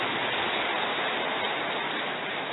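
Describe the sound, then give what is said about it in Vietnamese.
Dense, steady applause from a crowd of Buddhist followers at a refuge ceremony fills the whole stretch, a continuous crackling wash of many hands clapping at once, with no voices rising above it. “Nào, hoan hỷ cho một tràng pháo tay thật to thật giòn giã lên nha.”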